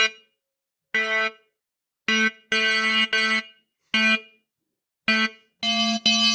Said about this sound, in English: So this is a bell-like sound. It doesn't have a harmonic series. So that should work for a bass for a something like a bell cowbell.